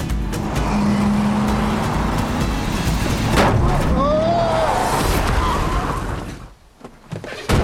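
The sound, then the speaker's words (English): A car drives along with a steady engine and road rumble and a few whining tones, then the noise briefly drops away before a short knock at the end. “You might need some help with your car.”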